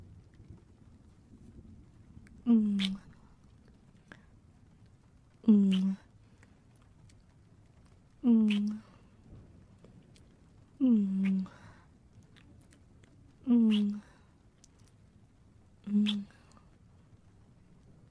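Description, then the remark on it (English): Six wet kissing smacks of lips pressed to a mouth land at a slow, steady pace about every three seconds, each paired with a soft murmured hum against a quiet background. “I think I want to press my mouth to yours and...”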